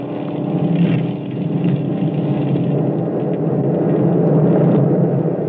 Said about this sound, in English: Suddenly, there was nothing but the sound of our own engines.